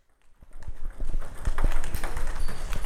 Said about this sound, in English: Squeaky sneakers and the sound of a ping pong ball bouncing across the tennis table.